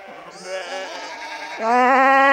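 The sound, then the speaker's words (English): Sheep bleat in long, wavering cries, a quieter overlapping chorus giving way to one loud, quavering bleat that holds to the end. “And hundreds of levitating sheep float in above the audience's heads.”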